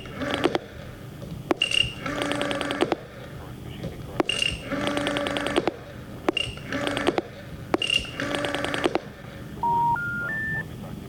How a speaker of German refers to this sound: Moment, ich verbinde. Die Verbindung kommt nicht zustande. Sämtliche Versuche, den Gesuchten aufzuspüren, schlagen fehl.